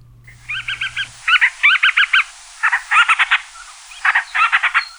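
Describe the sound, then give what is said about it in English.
A band-rumped storm petrel ('Akeake), a seabird of the Hawaiian islands, gives a raspy chattering call, rapid pulsed notes grouped into repeated bursts of three or four, with a faint low hum under the opening second. “Today, we've got the call of the band-rumped storm petrel.”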